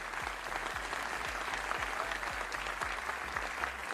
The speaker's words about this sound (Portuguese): Uma salva de palmas